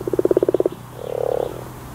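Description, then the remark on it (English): A common frog croaks: a quick train of about a dozen pulsing clicks, then a brief pause and a softer, purring rattle that swells and fades, with no voices. “That's the unmistakable sound of the common frog.”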